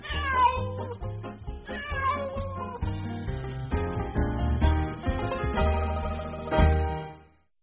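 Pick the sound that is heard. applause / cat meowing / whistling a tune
cat meowing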